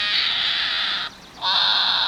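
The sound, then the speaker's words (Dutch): A hedgehog screams loudly in two long, harsh, high-pitched shrieks separated by a brief pause, raspy and piercing, with no talking. “Het is een egeltje.”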